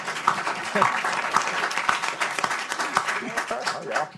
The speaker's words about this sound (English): I'm going to give it to Alice Rivlin right here on the front row. Alice Rivlin, give her a round of applause. She's the best.